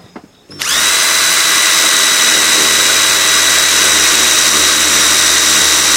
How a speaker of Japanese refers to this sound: ちょっと待てよ。 ドリルやるの。 ええ、ドリル。 任せてください。